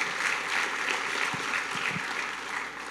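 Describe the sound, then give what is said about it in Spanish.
Sustained audience applause given to the Holy Spirit: a dense, steady crackle of many hands clapping at an even loudness, with no voices standing out. “Démosle un fuerte aplauso al Espíritu Santo, por favor.”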